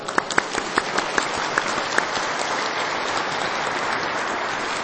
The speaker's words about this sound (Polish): Kochani, i siebie nawzajem przywitajmy gorącymi oklaskami.